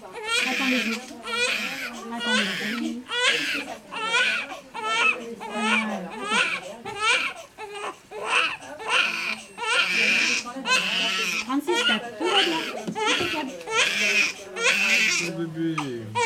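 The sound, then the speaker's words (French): A newborn baby cries loudly in repeated high, strained wails broken by quick gasping breaths, continuing steadily throughout. “C'est bien, mon bébé.”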